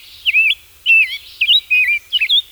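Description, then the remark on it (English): A series of bright, warbling calls from migrating songbirds at High Island, a coastal stopover with oak groves, repeats in quick phrases, about five short bursts of twittering song, clear, with no voices present. “To a migrating bird approaching land after many hours over open ocean, High Island must look like paradise.”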